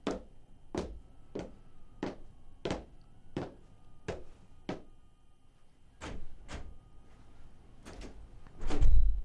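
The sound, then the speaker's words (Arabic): About a dozen sharp wooden knocks on a door in a steady, loose rhythm, by visiting guests of a poet asking for the door to be opened, then a louder low rumble at the end as the door swings open. No one speaks. “نحن ضيوف الشاعر عبد الحسين، افتحوا الباب رجاء.”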